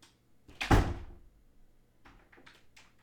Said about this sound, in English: And make sure you close the door behind you. I don't want Mom or Dad to hear this.